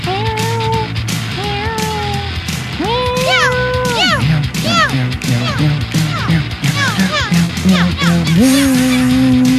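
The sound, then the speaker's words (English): Voices sing a string of drawn-out, swooping meows as cat songs, imitating cats in a playful melodic way. The meows come one after another, loud, with some overlapping vocal tones underneath. “singing some cat songs to you”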